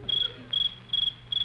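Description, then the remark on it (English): A cricket chirps in four evenly spaced, high-pitched trilling bursts against a quiet background, clear with no voices, in the country at night; the sound is made by rubbing its hind legs together. “that's just a little cricket.”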